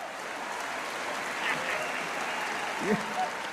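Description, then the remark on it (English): A crowd claps steadily throughout in response to a joke, a dense, even wash of applause, with scattered laughter and brief vocal bursts rising out of it near the end. “An audience member's jaw drops while others laugh and applaud.”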